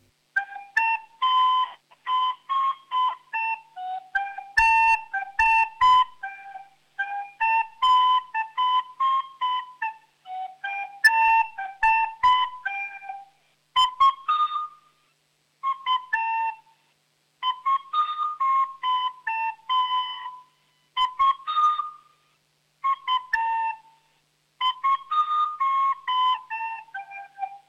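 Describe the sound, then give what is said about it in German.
A child plays a dance tune called "Rundtanz" on a recorder (Blockflöte), bright whistly notes in short repeated phrases with brief pauses between them, steady and fairly loud, with no talking. “Oh, hast du die Flöte da bei der Hand? Kannst du uns was vorspielen?”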